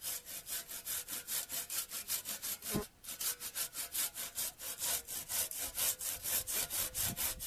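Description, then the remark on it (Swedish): A backsaw (motsåg) cuts through wood in steady, rhythmic back-and-forth strokes, each a bright, loud rasp, with a short break partway through before the sawing resumes at the same pace. “Jag kan klippa in motsåg.”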